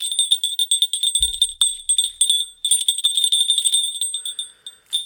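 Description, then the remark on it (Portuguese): A keychain jingles almost nonstop for about five seconds, a bright, rapid metallic tinkling with a sustained high ringing tone, briefly broken by pauses and one dull low thump. “Pá, o som do meu porta-chaves é este.”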